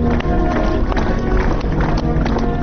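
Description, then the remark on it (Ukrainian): Dense, sustained applause from a large crowd fills the whole moment, loud, with excited voices shouting "Bravo!" over the clapping, ending a farewell ceremony for a singer in Kyiv. “Завершилася церемонія прощання оплесками та вигуками «Браво!».”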